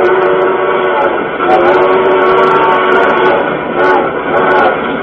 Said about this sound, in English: the train blew for a water stop 3 miles ahead.